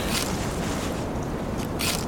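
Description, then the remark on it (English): A few crisp camera shutter clicks, short mechanical snaps with a gap, then two in quick succession near the end, over a constant rushing background noise. No one speaks. “Why is the shutter sound back on?”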